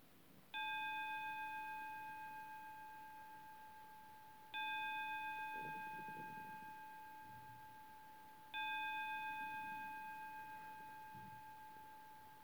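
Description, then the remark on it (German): A gong rings out three times at steady, evenly spaced intervals, each strike leaving a clear, sustained metallic tone that slowly fades before the next one. No one speaks. “Und heute möchte ich auch wieder mit dem dreifachen Gong beginnen.”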